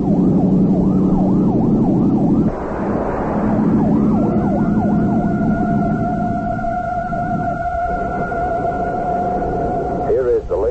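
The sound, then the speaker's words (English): A police siren wails in rapid rising-and-falling sweeps, then holds a steady tone, over the loud roar of the kidnappers' getaway car speeding recklessly through a one-way street to evade police, with a brief burst of noise midway. “However, the kidnappers recklessly stormed through a one-way street and managed to avoid capture.”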